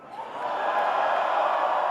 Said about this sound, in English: I think we never had this loud of a crowd anywhere. You are an amazing crowd, really.